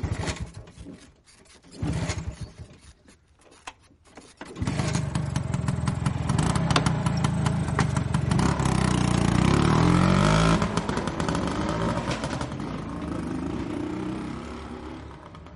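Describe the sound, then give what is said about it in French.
A small two-stroke scooter engine sputters briefly, then roars into a steady, loud drone that rises and falls as it revs before easing down; no talking. “Donc là-bas, on fait beaucoup de scooters.”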